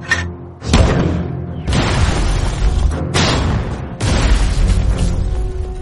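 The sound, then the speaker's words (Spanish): Heavy German mortar and artillery explosions boom one after another in a forest in the Colmar Pocket, France, fired at a US infantry regiment: about four loud blasts with rumbling aftermath filling the gaps, powerful with no voices. “El enemigo acaba de anunciar su presencia con unos disparos de mortero y artillería en el bosque.”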